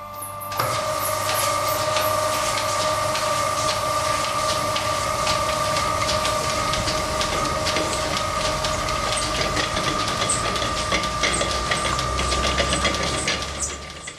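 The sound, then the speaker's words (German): Steam-powered looms clatter steadily and loudly throughout, a dense rhythmic mechanical racket of rapid clicks over a constant humming drone, with no voices. “Die dampfbetriebenen Webstühle arbeiten zu langsam.”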